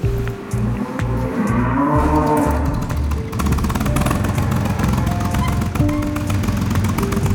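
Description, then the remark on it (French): Cows low and moo impatiently before feeding over a steady rumbling background, followed by the clattering drone of a running tractor. No one speaks. “Bon, on va commencer l'alimentation, que vous voyez, elle s'impatiente un peu.”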